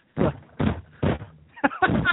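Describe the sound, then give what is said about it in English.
Three heavy, dull thuds land at an even pace as a man punches things like a punching bag while he yells, followed by a brief burst of loud, shouting voice. “Sounds like some like bad punching bag.”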